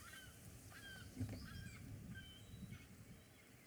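Several gulls call in short, overlapping cries, scattered across a few seconds over a steady low outdoor rumble.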